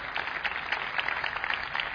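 Steady applause from an audience for a lieutenant of the Guardia Civil de Tráfico, a dense patter of many hands clapping at a moderate, even level with no voices over it.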